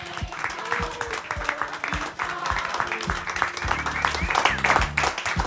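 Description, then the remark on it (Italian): A live evening audience applauds steadily to welcome the guests, dense clapping without a break, with some cheering voices rising toward the end. “Intanto fate un applauso, fatevi sentire, ben arrivati!”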